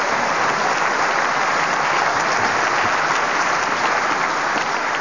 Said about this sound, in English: You're allowed to clap, audience, when they're getting warm.